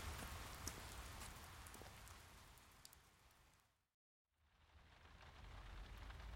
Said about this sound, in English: Oh, no, it's raining now.